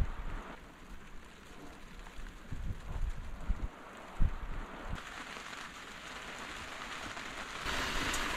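pouring rain

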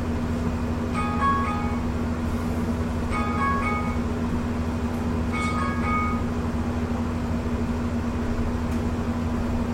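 alarm going off

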